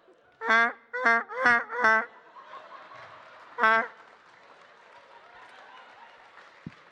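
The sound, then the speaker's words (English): A person imitates the mating call of a duck with four loud, nasal quacks in quick succession, then a single quack after a short pause, over a low background murmur of a crowd. “I've got the mating call of a duck.”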